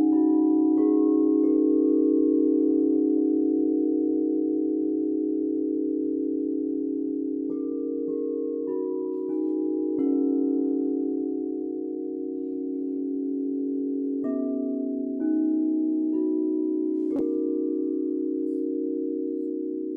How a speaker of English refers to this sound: Now shifting to crystal bowls, enjoy the pentatonic scale at first. If you don't, that's all the sharps in the scale.